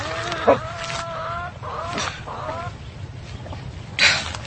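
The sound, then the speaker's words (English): Hens cluck in a hen house in short, warbling bursts, several overlapping calls with a couple of sharper squawks, set against a steady low rumble and rustle, with no talking. “Hen house, Murgatroyd.”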